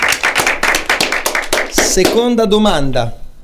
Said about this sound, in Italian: Applausino. Bravi.